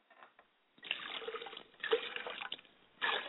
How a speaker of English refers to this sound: And ladies and gentlemen, I pour water to wash my face so that I will never greet my ancestors with a stale face.